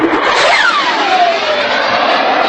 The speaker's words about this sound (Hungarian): Ez pedig egy Gripen hangja. Ez a negyedik generációs vadászbombázó át tudja lépni a hangsebességet, vagyis óránként 1000 kilométer megtételére is képes. Ilyenek szálltak fel a kecskeméti repülőtérről hétfőn 13 óra után néhány perccel